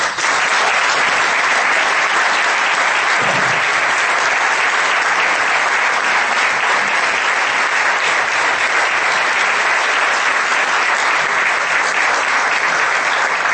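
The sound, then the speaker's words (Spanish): Sustained audience applause at a UNED Senior reading-group gathering (tertulia), a dense, steady wash of many hands clapping at full strength for over thirteen seconds, with no voices rising above it. “y que desearía que todos los miembros de la tertulia aquí presentes y el resto de los que aquí estáis, si lo consideráis oportuno, dediquemos un fuerte aplauso.”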